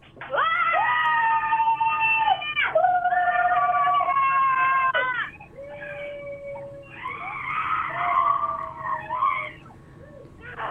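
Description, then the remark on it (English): Three women scream together at different pitches in a radio call-in screaming contest, long overlapping shrieks held loud for several seconds, then a second, more wavering round that rises and falls before fading out. “A group scream yeah. At different levels, at different times. Different yeah, pitches.”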